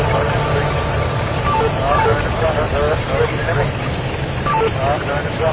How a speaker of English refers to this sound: More seriously, we have the auto garage, which is where all those revving engine noises that you've heard here from New York have been coming from.